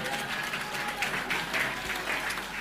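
An audience claps for the sisterhood, steadily for a few seconds, a dense, even wash of applause from many hands that holds at a constant level throughout, with faint crowd noise mixed in.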